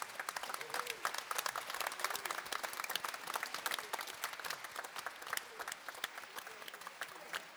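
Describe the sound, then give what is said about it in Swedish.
A crowd applauds steadily throughout, a dense, continuous patter of many hands clapping at a fairly even loudness for several seconds. “Du får gärna applådera hela tiden och få blommorna här.”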